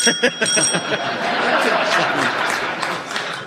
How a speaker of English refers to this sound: Kit, your buzzer went first.